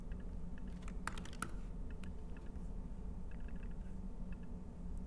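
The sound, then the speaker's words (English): Quick keystrokes on a computer keyboard, typing dots into a phone number field: a brisk cluster of sharp clicks early on, then scattered lighter taps over a steady low background hum, with no voices. “And so one bug that we actually have here is even though for the phone number, only numbers are showing up, one, I can type dots.”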